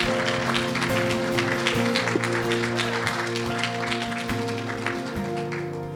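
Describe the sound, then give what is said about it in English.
An audience claps steadily for several seconds, a dense patter of hand claps over sustained, steady musical tones, easing off slightly toward the end. “Let's give a one final round of applause.”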